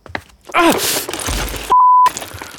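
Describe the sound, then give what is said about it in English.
A parent walking across a toy-filled living room for a glass of water steps on toys: a sudden sharp squeak and clatter, then a loud, pained groan from the adult, cut off by a steady censor bleep tone before the room noise returns. “Take this moment of a parent walking across their toy-filled living room for a glass of water.”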